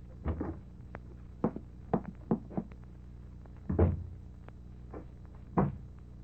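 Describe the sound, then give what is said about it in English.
A door being locked: a series of sharp clicks and knocking thuds from the handle and bolt, spaced irregularly over a few seconds, with no talking. “Locking the door, kid? What you locking the door for?”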